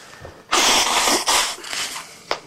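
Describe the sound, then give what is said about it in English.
A sudden, loud sneeze or forceful nasal snort from bad sinuses bursts out, a harsh breathy blast that trails into a second rush of air and fades, ending with a brief sniff-like click. No one talks. “Bad sinuses.”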